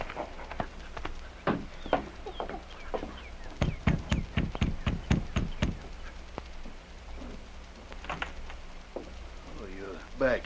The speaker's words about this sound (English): An hour later, the sergeant dismounted in front of Bill's cabin and knocked on the door.